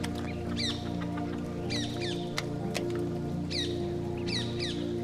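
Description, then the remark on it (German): Hungry pigs in a farm pigsty at midday grunting steadily in a low, continuous rumble, with loud wet smacking sounds and several short, high-pitched squeaks rising over the top. “Hörst du das laute Schmatzen und Grunzen? Der Schweinestall kann nicht mehr weit sein.”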